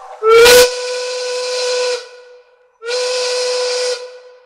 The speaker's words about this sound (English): All right, the factory whistle has sounded. That means it's 420 in America's cannabis capital of Denver, Colorado, and all throughout the Mountain Time Zone